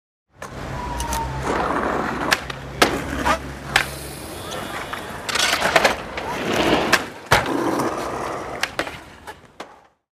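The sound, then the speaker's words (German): In the lanes of the town of Aarau, skateboards clatter and slam onto pavement again and again, sharp loud cracks scattered over a steady rumbling roll of wheels, the sounds echoing off surrounding building walls. “Man läuft durch die Gassen der Stadt und plötzlich hört man Bretter auf den Boden knallen. Ein rollendes Geräusch von den Häuserwänden hallen und ab und zu ein Jubelschrei, ein Klatschen und manchmal auch ein Fluchen.”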